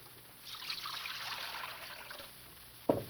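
Water trickles and splashes softly into a basin for about two seconds, a steady dribble that fades out, followed by a single sharp clunk near the end. No one speaks.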